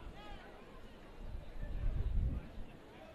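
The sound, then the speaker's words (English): Low, rumbling wind on a breezy day buffets the crowd microphone at a baseball game, swelling to a gusty peak midway before easing off, over a faint murmur of crowd chatter. “Hear the wind picking up on our crowd mic, but nothing too crazy.”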